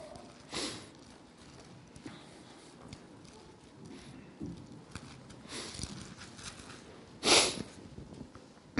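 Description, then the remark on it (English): A few sharp nasal sniffs from the congested nose of someone getting over a cold, fairly loud, spaced several seconds apart with the last one strongest, over quiet background noise. “Apologies for my sniffles. I'm getting over a cold and everything's starting to drain.”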